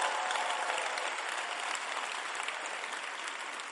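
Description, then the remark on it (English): Sustained applause from a crowd clapping for Jesus during a sermon, a dense wash of many hands clapping at a steady, fairly loud level that fades slightly toward the end, with no voices standing out. “Clap for Jesus.”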